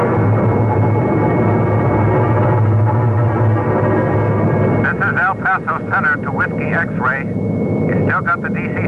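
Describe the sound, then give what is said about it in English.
A propeller airplane engine drones steadily and loudly throughout, a continuous low hum, with a pilot's voice radioing the El Paso Center search coordinator over it in the second half. “We have found your lost plane.”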